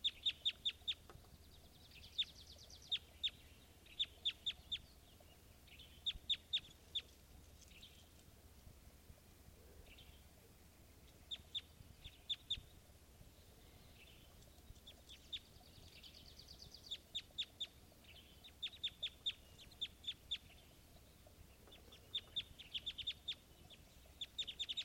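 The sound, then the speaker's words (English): A male and female bird call together in bursts of sharp, high, clucking notes, some running into quick rattling series, separated by short pauses over a steady low background rumble. “Recording now, there's the male-female pair here.”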